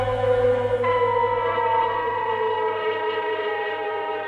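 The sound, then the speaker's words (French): Sirens in Prague in 1948 call workers gathered by the Communist Party to assemble on the Old Town Hall square. They wail loudly and continuously, a steady sustained howl with a low droning hum underneath, rising slightly in pitch partway through and holding without pause. “À l'appel des sirènes, les ouvriers rassemblés par le Parti communiste se sont rendus en bon ordre au rendez-vous que leur avait donné sur la place de l'Hôtel de Ville le ministre Gottwald, leur chef.”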